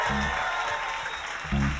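An audience applauds steadily for the guitarist at a KEXP live session at the Kex Hostel, a dense wash of clapping, with a brief low murmur of voices near the start and again near the end.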